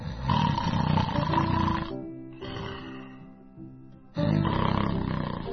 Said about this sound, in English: Today's spotlight is on snoring and the problems it can cause.